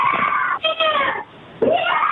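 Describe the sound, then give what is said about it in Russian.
A young woman screams hysterically in high, strained bursts, muffled from behind a door at the neighbours', with a brief pause before another anguished cry rises. “Здравствуйте, нам бы полицию вызвать, а то соседи какая-то буйня происходит, девушка орет прямо истерически.”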